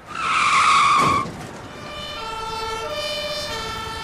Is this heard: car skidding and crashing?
yes